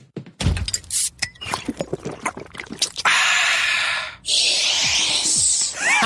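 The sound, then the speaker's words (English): A Coke cracks open with a sharp snap and a few small clicks, then a steady fizzing pour hisses for several seconds, broken by one brief pause. No one speaks. “That wasn't sound effects. That was a Coke.”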